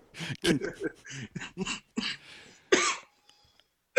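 A string of rough, close coughs and throat-clearing bursts in quick irregular succession, ending with one louder, harsher hack and a brief quiet pause.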